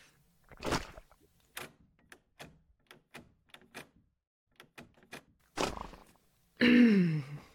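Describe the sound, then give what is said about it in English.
Metallic rattling and clunking as someone tries to jimmy the lock of a conference room's security door: a series of sharp knocks and jiggles with pauses between, then a heavy thud and a final grinding scrape, with no one talking. “Maybe I can jimmy the lock.”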